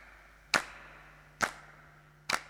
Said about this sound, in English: These claps were done in my home studio in my mum's garage.